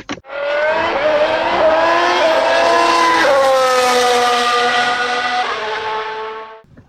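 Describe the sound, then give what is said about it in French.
Several racing engines roar loudly together at a race start, their high whining pitch climbing and shifting as the cars accelerate away, a dense wall of engine noise lasting about seven seconds. “Alors, sans plus tarder, mesdames et messieurs, démarrez vos moteurs, c'est un départ.”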